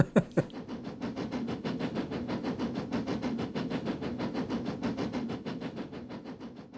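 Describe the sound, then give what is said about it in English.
A train rumbles steadily with a rhythmic chugging of engine and wheels on the rails, opening with two sharp clanks before settling into a continuous, moderately loud mechanical drone with no voices. “and lo and behold, they had a section called Train Sounds, believe it or not.”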